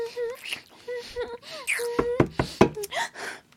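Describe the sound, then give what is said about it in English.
Several sharp knocks, about four in quick succession, strike a door over a woman's moaning vocalizations, which continue throughout. “They're knocking on the door.”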